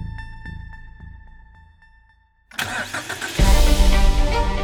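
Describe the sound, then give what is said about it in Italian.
A DeLorean DMC-12 car engine cranks with a rhythmic, whining pulse, falls quiet for a moment, then bursts loudly to life and keeps roaring as the car speeds through a parking lot, with no voices. “L'auto sfreccia per il parcheggio, si ferma, ma non esce nessuno.”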